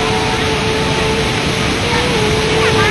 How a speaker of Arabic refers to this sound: هذه هي شلالات إغواسو، ثاني أكبر شلالات في العالم.